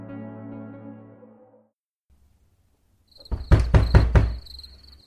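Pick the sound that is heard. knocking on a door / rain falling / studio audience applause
knocking on a door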